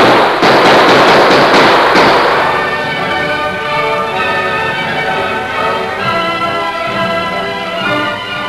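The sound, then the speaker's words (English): A loud, rapid volley of sharp gunshots, fired by men after fleeing riders, crackles for about two seconds, then gives way to steady, sustained tonal notes that carry on to the end without any voices. “Come on, let's swing lead after them.”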